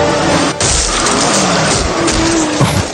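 A loud car crash as a car hits a pedestrian: roaring engine and screeching tires under dense noise, with sharp impact bursts near the start and again near the end, and no voices.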